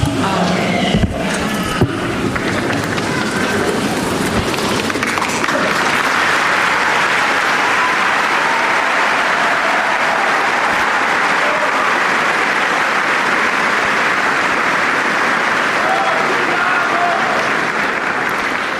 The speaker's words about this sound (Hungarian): Ma is nagy tapssal köszönik meg a Szentatyának az ő áldását, az ő tanítását. Ha jól láttam, szinte zsúfolásig meg van telve a 6. pálterem. Ezt hallhattuk is ugye a tapsnak és az üdvözlésnek a minőségéből.